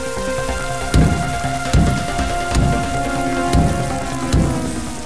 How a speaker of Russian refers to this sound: Дождливым и ненастным вечером пришлось ему бежать из одного города. Сверкали молнии, гром гремел. Промокший до нитки, он бежал, куда глаза глядят.